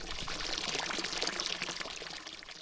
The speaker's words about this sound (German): Ratet mal, wo wir uns gerade befinden. Und habt ihr es erraten? Wir sind beim Kirchplatz vor der alten Kirche bei einem Wasserbrunnen.